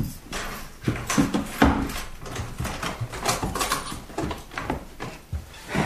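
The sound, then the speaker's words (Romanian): Busy rattling and scraping of an old rusty lock being worked, with repeated metallic clunks and a grinding creak as the heavy salon door of a house, unopened for 13 years, is forced open. No one speaks. “Poate nu mai merge, fiindcă de atunci, de 13 ani, nimeni n-a mai deschis ușa aceasta.”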